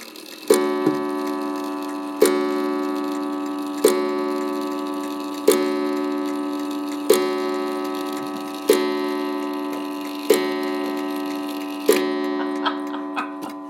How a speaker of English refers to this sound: This is another hat-shaped clock.